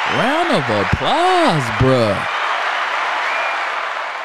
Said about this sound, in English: This person invented an edible tape to stop burritos from falling apart. Woo! Round of applause, bro.